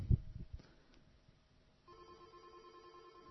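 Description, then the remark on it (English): A telephone starts ringing after a few low thumps, its steady electronic tone holding clearly for over a second at moderate volume with no one talking; a caller phoning in to the Foxed Up show. “You know, we got phones.”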